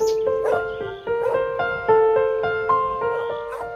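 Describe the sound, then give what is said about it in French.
A dog named Garçon barks and yelps excitedly in a quick, steady series of high-pitched, whiny calls, fairly loud, with no talking over it, as it arrives and goes into the reeds by a pond in Sologne, France. “Ah bah tenez, on a votre chien qui est arrivé.”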